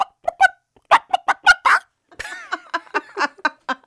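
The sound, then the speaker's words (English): Someone does a chicken impression as their own vocal sound effect: a run of short, choppy clucks, then a louder stretch of rapid squawking bawks. No other voices or background sounds. “It's just one of my own sound effects that I can do.”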